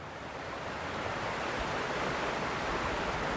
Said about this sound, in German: Was man hier im Hintergrund rauschen hört, ist nicht etwa der Neckar, sondern der Zugwiesenbach, des Neckar-Biotops Zugwiesen bei Ludwigsburg-Poppenweiler.